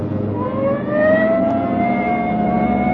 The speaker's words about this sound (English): Hit the siren. I'll get the light.